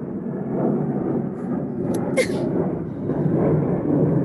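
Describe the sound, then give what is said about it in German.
An airplane flies over a terrace very near an airport, a steady, loud low-pitched roar that swells and holds for several seconds, with a couple of brief high bird chirps cutting through midway. “Jetzt fliegt gleich ein Flugzeug über meine Terrasse, weil wir wohnen ja sehr nahe am Flughafen.”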